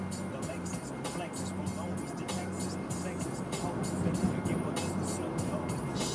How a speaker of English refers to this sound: I just parked in front of a fire hydrant.